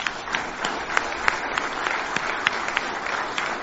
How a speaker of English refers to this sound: These elders have been sorely tested. These are servant leaders that have a special place in my heart, and each of them are a hero to me. Can we applaud and say thank you?